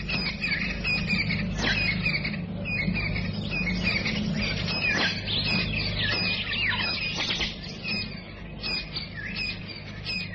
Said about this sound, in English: A chorus of birds heralds the dawn in the African bushveld.